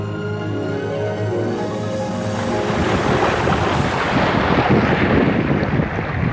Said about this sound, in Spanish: Mar golpeando con furia arrecifes milenarios. Viento atrevido que inunda el olfato cargado de salitre. Graznido discordante de gaviotas en busca de alimento.